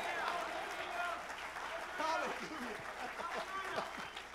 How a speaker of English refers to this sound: Can somebody give him a hand clap?